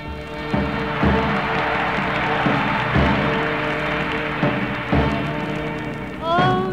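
A steady patter of audience applause at a big band performance greets a singer's appearance in a pink party dress, dense and continuous, with sustained musical tones running beneath it and a short rising note near the end.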